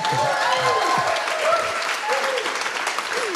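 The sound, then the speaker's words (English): Steady, dense applause from the live audience of BFM's A Bit of Culture, a continuous wash of clapping with faint voices and brief whoops mixed in, holding at an even, fairly loud level throughout. “Applaud, please.”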